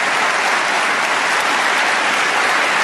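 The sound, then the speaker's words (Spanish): Steady, loud audience applause at an award ceremony as Ana Corina Sosa, daughter of Machado, received the award on her mother's behalf: dense, continuous clapping from many hands with no pauses and no voices rising above it. “El mensaje más contundente que recibió una ovación, aplausos que también se repitieron cuando Ana Corina Sosa, hija de Machado, recibió el galardón en nombre de su mamá.”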